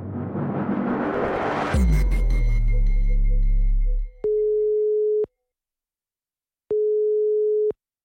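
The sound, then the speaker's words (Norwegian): A phone line tone after a dense noisy burst: two long, steady electronic beeps, each about a second, separated by silence, the familiar pattern of a call ringing out unanswered. “Den du ringer svarer ikke.”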